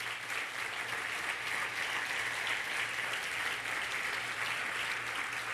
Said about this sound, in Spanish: Yeah, Lord Jesus, dale el aplauso a su grandeza.